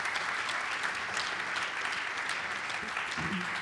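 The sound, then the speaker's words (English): Sustained applause from an audience for guest speakers, a dense steady patter of many hands clapping at an even, fairly loud level throughout, with no voices standing out. “So please, a round of applause”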